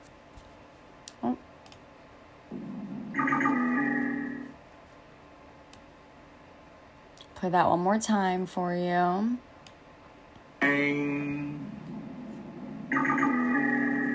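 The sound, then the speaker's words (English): A dwarf minke whale call recorded in Australia, taken from a BBC article: several loud, buzzy, metallic bursts with a twangy, pulsing texture, one rapidly warbling sweep in the middle. A person speaks briefly between them. “But this is, I took this from a BBC article about dwarf Mickey whales in Australia.”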